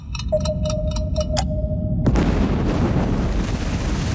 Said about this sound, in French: Et là, une deuxième bombe a explosé. Je me tenais en haut d'un escalier et j'ai senti tout le bateau se soulever. Minuit 2, le Rainbow Warrior est coulé.